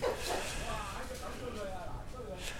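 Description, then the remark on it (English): A dog barks and yips excitedly as it chases a small wild animal amid an outdoor commotion, the barks repeated over the stretch, with people's voices talking in the background. “There's a dog here.”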